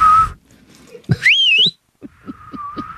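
A person whistles a short, rising and wavering note, then holds a softer, steady whistled tone while low, soft thumps pulse underneath. No one speaks.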